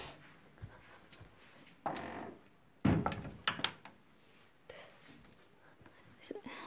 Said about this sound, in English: Maybe I should close the door, right? Yeah, hold on.